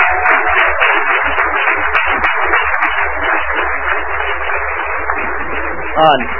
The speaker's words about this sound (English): So let's give them a real big round of applause.